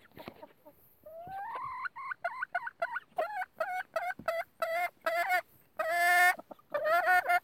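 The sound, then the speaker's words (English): Turkeys at their coop gobble and whine in a quick, repeating series of rising, warbling calls, with a louder burst of gobbling near the end and no talking. “quit whining. Okay, birds.”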